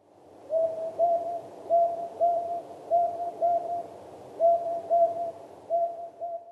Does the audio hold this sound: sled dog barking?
no